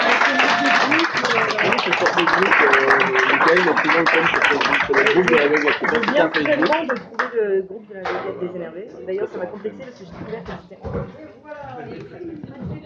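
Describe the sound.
An audience applauds loudly for several seconds, a dense wash of clapping mixed with voices, before the clapping thins out and scattered claps continue under a person speaking. The applause is for a guitarist whom a performer introduces on stage.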